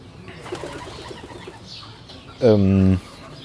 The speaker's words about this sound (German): Oh. Eine Taube direkt über mir.